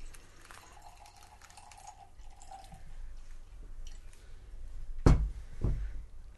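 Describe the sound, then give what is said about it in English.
Tart of Darkness, a sour stout of about 5.6% alcohol aged in oak barrels, poured gently into a glass, a soft, faint trickle and gurgle with low background hiss, followed near the end by two sharp knocks or clinks. No one speaks. “Pour gently, in case there's a bunch of yeast at the bottom.”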